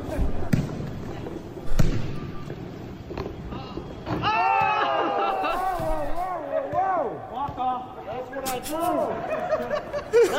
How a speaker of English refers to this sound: Former president Barack Obama showed he can still get some buckets, swishing a corner three-pointer at a Flint, Michigan gym on Saturday while he was on the campaign trail for Joe Biden, his former vice president.